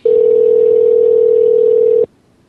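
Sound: telephone ringing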